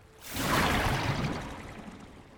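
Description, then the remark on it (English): A single rushing splash of water swells up quickly and then slowly washes away, fairly loud, as someone goes into the ocean, with no voices. “Hey, the water's fine, right?”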